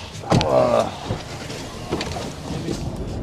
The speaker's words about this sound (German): So, also wir sind jetzt im Auto unterwegs, wie man vielleicht sogar hören kann. Unterwegs zum Maislegen.